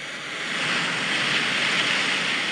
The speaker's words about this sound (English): Ocean waves crashing.